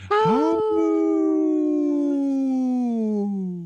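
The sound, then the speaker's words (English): A person imitates a wolf howl: one long, loud 'awoo' that rises sharply, then slowly slides downward in pitch for several seconds before trailing off. “I had a little bitty awoo.”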